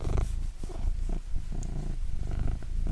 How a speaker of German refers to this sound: Kann die Katze mal schnurren? Ja, vielleicht. Ich versuch's mal, dauert vielleicht einen Moment, den Apparat anzuschmeißen. Wenn er sitzt, schnurrt er nicht so gut, wie wenn er liegt. Aber es geht los.